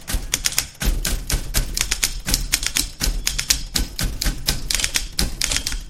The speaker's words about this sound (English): And a small, somewhat puzzled audience watches as five men take the stage, then sit down in front of an array of old-fashioned typewriters of various sizes and shapes and shades and start to peck away.